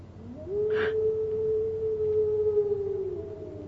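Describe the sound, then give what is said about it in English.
An eerie hound's cry heard on the moor, said by local people to be the cry of the hound of the Baskervilles: one long mournful howl that swoops up, then holds a steady, wavering mid pitch for nearly three seconds before sagging at the end, over a low rumbling background. “They say it's the cry of the hound of the Baskervilles.”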